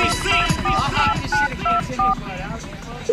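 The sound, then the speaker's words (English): A phone rings with a series of short, clear electronic beeps in quick succession, standing out over a busy background of voices and noise. “Yeah, the phone is ringing.”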